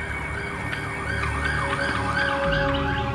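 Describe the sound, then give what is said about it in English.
An emergency vehicle siren wails in a steady rising-and-falling pattern, fairly loud and continuous, over a low rumble of road traffic with no voices. “The siren stopped and I just sunk again.”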